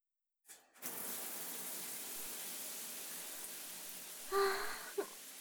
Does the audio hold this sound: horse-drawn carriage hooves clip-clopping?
no